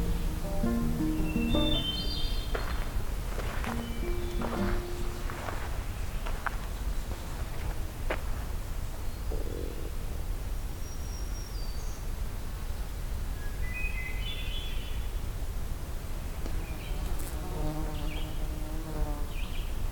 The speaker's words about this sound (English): Okay, so we're going to add to our list another hermit thrush, a couple more red-eyed vireos, downy woodpecker I did hear as well, black-throated green warbler